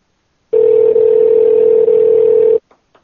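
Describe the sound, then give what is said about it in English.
A loud, steady telephone dial tone hums for about two seconds as a call is placed back to someone who hung up, then cuts off, followed by two brief, faint clicks like keys being pressed. No one speaks. “Let's call Himmler back.”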